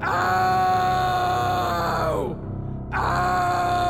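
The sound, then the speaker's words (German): A king covered in itching sores groans and cries out in pain, a loud, strained vocal wail that bends downward, breaks off briefly, then resumes, intense with no other sounds around it. “Herr König, es passt nicht von dir, also zu schreien.”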